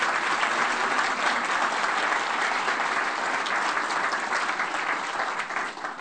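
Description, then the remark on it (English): A steady burst of audience applause for the leaders of the House of David ministry: many hands clapping together at an even, sustained level for several seconds, with no voices rising above it, tapering slightly near the end. “So if you would give them a warm hand clap.”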